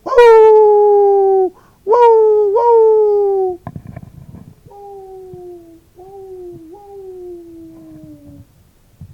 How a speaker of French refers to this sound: Dans le lointain, l'aboiement d'un chien éveilla un autre aboiement, plus lointain encore.